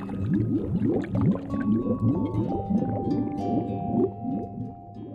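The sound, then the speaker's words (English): Continuous muffled underwater gurgling, with bubbly, churning pulses and a few low drawn-out tones, steady and fairly loud throughout with no voices. “And he's just under the water, gurgling along, waiting to pull you under.”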